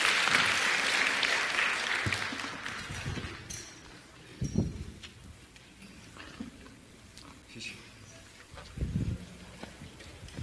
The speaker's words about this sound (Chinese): 我们掌声来欢迎他，来麦克风给大家。